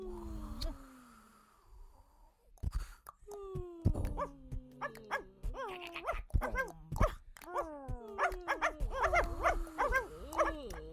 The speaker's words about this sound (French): Ah, il y avait quelques chiens dans ce portrait sonore. Et beaucoup, il se passait beaucoup de choses. Quelques aboiements et quelques silences,